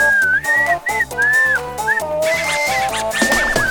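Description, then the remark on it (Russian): A man whistles a lively melody he calls a national, patriotic whistle, in clear, sustained phrases that rise and fall in pitch, carried over steady instrumental backing music with a marked rhythm. Nobody speaks. “Я еще, оказывается, умею свистеть. Национальный, как говорится, патриотический свист. Сейчас изображу.”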